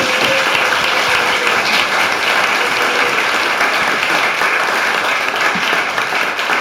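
Sustained audience applause, a dense, steady wash of many hands clapping at constant loudness throughout, with no voices standing out.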